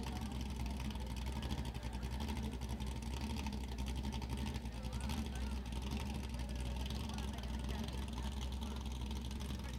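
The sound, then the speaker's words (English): A 19-foot speedboat engine drones steadily for the whole stretch, a loud, constant low roar with a rough, buzzing texture and faint indistinct voices mixed into the background. “The 19-foot Homewrecker that'll throw a 30-foot rooster tail.”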